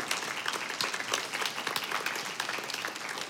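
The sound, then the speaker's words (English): An audience applauds steadily to celebrate its Stephen ministers as they stand, many hands clapping in a dense, continuous patter that stays fairly even in loudness for a few seconds, with no voices standing out. “A round of applause.”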